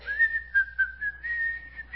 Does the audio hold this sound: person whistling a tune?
yes